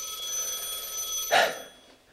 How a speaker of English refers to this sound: Always a ringing phone.